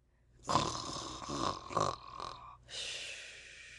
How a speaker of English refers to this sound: He was lying on his back with his mouth open, grinning from ear to ear. He snored peacefully and regularly.